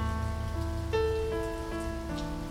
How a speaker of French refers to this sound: Ce soir, la mousson s'invite dans la nuit de la radio. Laissez-vous porter par la pluie.